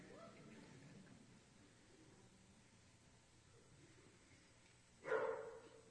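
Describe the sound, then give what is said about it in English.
A single sharp dog bark rings out near the end, loud, after several seconds of low, steady background noise with no talking, heard during a church sermon. “Even the dogs agree.”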